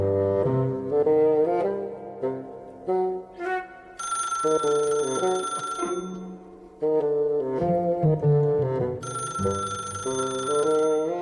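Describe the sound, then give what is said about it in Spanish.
A telephone bell rings loudly in two long bursts in the law office of Beagle, Shyster and Beagle in a studio show, over a bright melodic musical background, with no voices. “La señora Dimple atiende el teléfono.”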